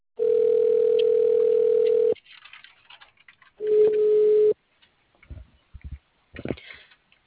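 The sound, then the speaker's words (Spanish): A steady telephone tone sounds for about two seconds, pauses, then returns more briefly, followed by faint clicks and line noise as the call to a transportation company is transferred to the operator. “Por favor, permanezca en línea mientras se transfiere su llamada al operador.”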